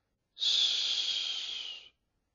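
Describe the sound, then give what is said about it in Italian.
A single sustained hiss made by a person as a customary reply signal, breathy and high-pitched, holding steady for about a second and a half before stopping abruptly. No talking accompanies it. “Non mi pareva vero di vedere come l'avevano conciato i compagni della società segreta e mi affrettai a rispondere col solito sibilo.”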